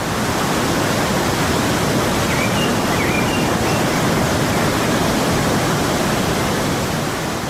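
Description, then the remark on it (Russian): A loud, steady, deafening roar of rushing water from the many waterfalls in the mountains around the town of Arhavi, dense and unbroken from start to finish with no pauses or voices, enveloping. “И тотчас погрузитесь в оглушительный шум водопадов, которых здесь бесчетное количество.”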